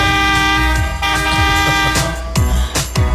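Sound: horn honking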